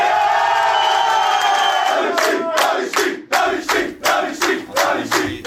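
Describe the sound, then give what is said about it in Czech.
The Tábor team celebrating in the locker room after beating Havířov in overtime of the fifth game of the second-league final: a group of voices shouts and cheers together, then breaks into loud, steady rhythmic claps or stomps, about two per second, with whoops over the top. “připravil jsem se jeden kratičký zvuk z toho, co se dělo v šatně po tom zápase, kdy Tábor v pátém finále druhé ligy porazil Havířov v prodloužení.”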